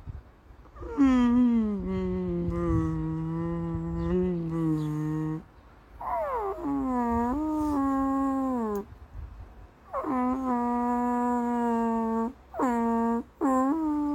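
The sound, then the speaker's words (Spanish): A voice imitates the howl of a dog lying in its crate, in four drawn-out, wavering cries, the first long and steady, the last a short yelp, fairly loud with brief pauses between. “Y de repente, el perro se tumbó, mirando hacia afuera del transportín, mirándonos a nosotros, y empezó.”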